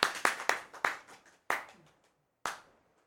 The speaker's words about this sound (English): The clerk in the tank, involuntarily, applauded.